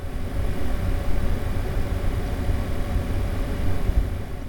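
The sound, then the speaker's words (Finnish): A computer fan hums steadily, a constant low drone with a faint airy hiss above it, unchanging for the whole stretch with no voices or other sounds. “Tietokoneen hurinaa.”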